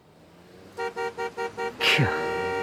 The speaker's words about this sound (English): Caught in a traffic jam.